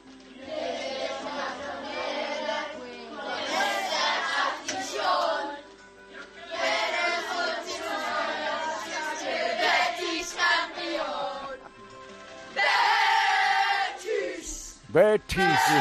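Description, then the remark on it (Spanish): A group of schoolchildren at a school in London, England, loudly chants the Real Betis football anthem in rhythmic bursts of several seconds each, with short pauses between phrases and a sudden swooping noise at the very end. “Aquí en nuestra clase de Londres hemos aprendido el himno del Betis y lo cantaremos ahora para inspirar al Betis a ganar la Copa del Rey.”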